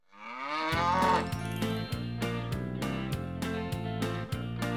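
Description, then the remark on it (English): A loud cow moo from Moo Moo the cow rings out, long and drawn, then blends into a bouncy musical backing with a steady beat and a low bass line. “Who makes this sound? A cow!”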